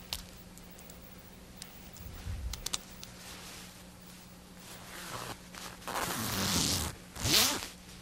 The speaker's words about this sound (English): I didn't put my zipper up on this one.